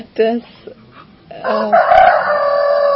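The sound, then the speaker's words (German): A rooster crows, a loud drawn-out cock-a-doodle-doo with rising harmonic calls, preceded by a short clucking burst and a couple of softer sounds. “Auch Hühner wollen gerne sehen.”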